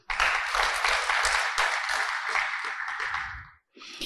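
A conference audience claps steadily for the speaker's students for about three and a half seconds, a dense, loud crackle of many hands that cuts off, then briefly swells again after a short gap.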